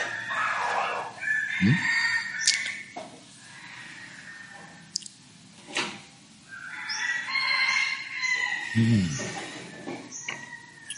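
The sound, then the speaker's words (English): Chickens cluck and crow in a busy run of overlapping calls, with bright, drawn-out cries and shorter squawks following one another for several seconds. “It's too loud, the chickens, you know, I mean.”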